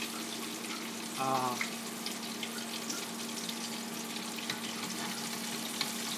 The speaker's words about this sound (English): Dry them off. Fry it up. Seems to be doing good.